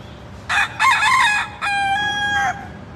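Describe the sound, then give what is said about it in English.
A wild rooster crows once, loud, in a long multi-part cock-a-doodle-doo that rises, holds and trails off, with no talking around it. “I found the wild rooster.”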